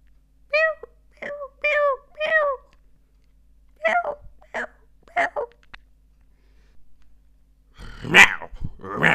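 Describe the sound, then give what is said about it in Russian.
A person with a hoarse voice imitates a small kitten's meows: three short, high mewing squeaks in quick succession, then a few rougher, breathier mews, ending with a louder harsh burst. “Это типа маленький котенок, только раньше, конечно, лучше получалось, но голос сел, что поделаешь, уже нормально не получается.”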